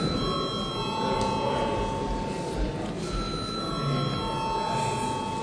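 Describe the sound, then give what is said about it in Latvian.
A parliament chairman's bell rings steadily for several seconds before a vote on proposal 32, a sustained, bright metallic tone with layered overtones, over a low murmur of background chatter in the chamber. “Lūdzu zvanu.”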